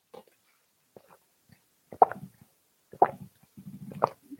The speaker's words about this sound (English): Excuse me. I'm just going to take a sip here.